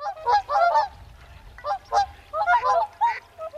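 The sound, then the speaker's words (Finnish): A swan calling with a series of nasal, bugling honks in uneven bursts, fairly loud, over a faint low rumble in the background. “Se valittaa surkeasti, haikealla äänellä se laulaa.”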